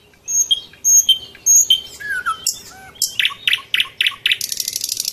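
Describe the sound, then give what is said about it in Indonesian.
Melodious birdsong in the trees around a tourist area with tall cone-shaped anthills and green foliage: a repeated three-note whistled phrase, then varied chirps and a rapid trilling series of sharp tweets, clear and bright with no talking. “Pemandangannya semakin diperindah dengan adanya hijau dedaunan dan suara merdu kicauan burung di sekitar areal tersebut.”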